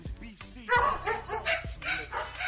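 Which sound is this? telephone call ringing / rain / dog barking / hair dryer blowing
dog barking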